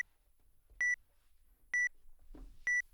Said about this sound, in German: Hier kann man sich durchaus Zeit lassen, denn wenn ich mit den Händen dran gehe, dann wackeln ja die Seiten und es wird folglich auch kein Bild geschossen. Man hört das dann auch, das Gerät piepst dann.